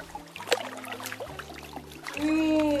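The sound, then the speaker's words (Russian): Sea water gushes and splashes in through an attic window in a steady pour that swells louder toward the end, with tonal music playing underneath the rushing flow. “Это море вливается в окошко чердака!”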